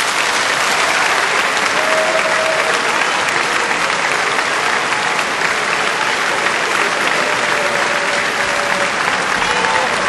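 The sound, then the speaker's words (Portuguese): A theatre audience applauds steadily and loudly as Verdi's chorus "Va pensiero" ends, a dense wash of clapping that holds for the whole stretch, with scattered cheers and shouts of "bis" and "viva Italia, viva Verdi" rising out of it now and then. “Enquanto algumas pessoas gritavam bis, bis e viva Itália, viva Verdi, as que estavam nos pisos superiores do teatro jogavam pedaços de papel picado.”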